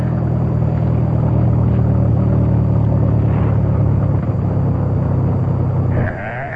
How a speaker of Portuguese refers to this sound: Parece que o temporal vai amainar.